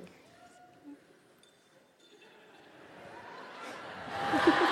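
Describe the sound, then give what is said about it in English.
Wind chimes ring faintly with scattered, overlapping metallic tones against a low murmur of background voices, the tinkling growing busier and brighter toward the end. “It's so funny to hear the fucking wind chimes going.”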